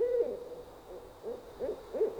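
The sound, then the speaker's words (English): An owl hoots several times in the darkness on a summer night, in a quiet, low, wavering series, starting with a drawn-out call and followed by shorter hoots, against a faint background hush. “Somewhere in the darkness, an owl hooted.”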